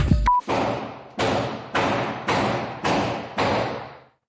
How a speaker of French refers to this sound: Dans celle-ci, on entend toute son inquiétude, mais aussi des bruits sourds à l'étage, comme ceux de quelqu'un qui frapperait contre sa porte.